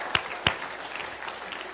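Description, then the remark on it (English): An audience bursts into applause to give the Lord a hand: two sharp, loud claps stand out at the start, then many hands keep up a dense, crackling patter that holds steady to the end. “And lately he's been preaching against clapping. So just in his memory, I want to do it one more time.”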